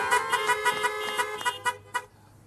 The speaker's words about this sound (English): pandemic campaign included parking lot rallies with honking cars in Merritt, Surrey, North Delta, and other places.